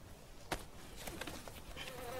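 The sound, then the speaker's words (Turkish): A hornet that came in through the car window buzzes steadily inside a car, its drone filling the quiet with a few sharp knocks and flutters as it bumps around. No one speaks. “Arabanın camından eşek arısı girdi.”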